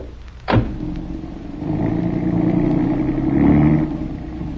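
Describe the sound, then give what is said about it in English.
A sharp thump is followed by a car engine turning over and settling into a steady hum, then revving louder as the car pulls away carrying a passenger, with no talking. “Oh, jump in and I'll take you back with me.”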